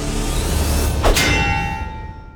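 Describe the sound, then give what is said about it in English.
A single loud metallic clang rings out over a low rumble as Loki brings a metal roasting spit down on an eagle, followed by a bright, sustained ringing tone that slowly fades away. “Instead, a loud metal clanging was heard, and the spit became affixed to the eagle's back.”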